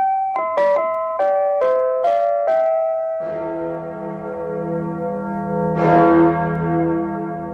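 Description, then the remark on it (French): A short run of bright chime notes gives way to the Freedom Bell, given by the United States to West Berlin in 1950 and hung in the belfry of Rathaus Schönberg, as broadcast by RIAS Berlin at Sunday noon: a large, deep tower bell tolling loudly with long, resonant decay. “Voix libre du monde libre, selon son slogan, la RIAS faisait alors résonner chaque dimanche à midi le son de la cloche de la liberté.”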